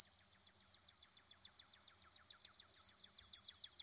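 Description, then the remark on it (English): Cedar waxwing song: very high, thin, drawn-out hissing whistles repeating at a steady pace, with faint rapid ticking trills between them, clear and alone with no voices. “Often, the best way to know they're around is by their song.”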